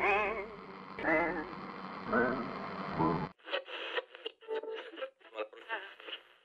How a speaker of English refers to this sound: Is this signal cutting through the interference?